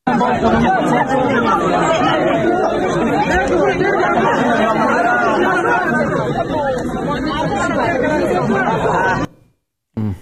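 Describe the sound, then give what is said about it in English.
A dense, loud crowd at Kabul airport, where people pass infant children forward hoping they will be evacuated, murmurs and shouts continuously, overlapping voices merging into a steady roar of chatter that cuts off abruptly near the end. “We have some heartbreaking video from Kabul that shows people passing their infant children to other people in the crowd ahead of them at the airport, hoping that those babies and toddlers will be evacuated.”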